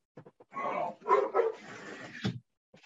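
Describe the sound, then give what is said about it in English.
A dog barks outside a window in a quick run of several barks and yelps blending together, moderately loud, with no one speaking. “You know, I got to close my window because there's a dog out there.”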